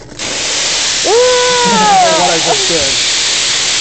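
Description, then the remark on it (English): An espresso machine's steam wand lets out a steady, loud hiss for several seconds, with a brief wavering tonal sound rising over it partway through. “I think you click the steam. It's like a soft cleaning process.”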